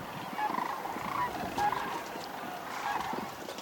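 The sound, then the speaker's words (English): A chorus of sandhill crane calls, many rattling, trumpeting voices overlapping continuously as if from a large flock, steady and moderately loud throughout with no talking. “with a French horn or something, with a long passageway for the sound that it kind of amplifies it, and it comes out very loud.”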